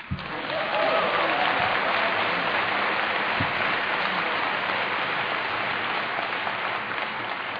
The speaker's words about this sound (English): There's a strong clap anything faction here tonight. Apparently even I can appeal to it.